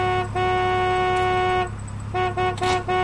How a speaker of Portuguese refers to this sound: Ela tem um olhar perdido no chão e nem se apercebe do carro que buzina insistentemente.